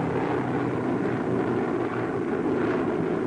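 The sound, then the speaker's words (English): A massed roar of heavy propeller engines from a fleet of more than 175 Liberator bombers, dense and continuous, droning steadily as they fly over the coast of Greece, the Balkan Mountains and the Danube on a mission to bomb the oil refineries of Ploiești. “Over the coast of Greece, across the rugged Balkan Mountains, past the Danube, the bombers roar upon their mission.”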